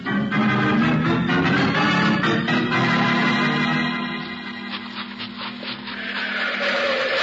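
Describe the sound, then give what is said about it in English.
A car engine starting up: a loud, steady mechanical rumble with a low droning hum and rough, grinding texture, briefly easing before swelling again, with no voices. “Yeah, I hear it, Jake. Car starting. A car starting.”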